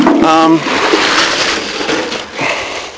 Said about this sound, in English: Sorry, just replacing the pig water.